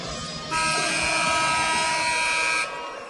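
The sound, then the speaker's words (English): A basketball game buzzer at a West High versus Valley game, before the opening jump ball, blares once in a single steady, harsh, loud tone lasting about two seconds, then cuts off, leaving a low background murmur before and after. “Buzzer sounds.”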